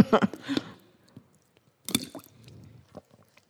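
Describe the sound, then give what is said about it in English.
Someone drinks water, with a few wet sips and swallows, then a short pause and another quick gulp, followed by soft breathing and faint mouth noises. “I need water.”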